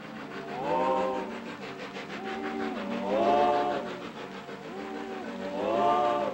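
A circus train rolls along at night through a dark, heavy rainstorm, with steady hissing rain and a mournful wailing tone that swells and fades in three slow waves. No one speaks.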